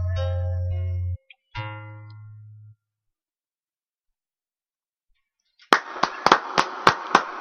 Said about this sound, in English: Well, with you guys clapping in this room, it sounds a lot bigger. It does. Everything seems bigger in this room.